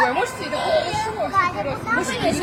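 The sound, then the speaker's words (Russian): Several children shout and call out outdoors under the windows, their high, overlapping voices rising and falling continuously, a lively playground-like din without pause. “А вы считаете это нормально, да, что они тут под окнами кричат уже минут 10?”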